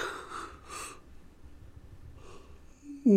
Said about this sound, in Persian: صدای خمیازه ی کشداری آمد و پیهسوزی روشن شد.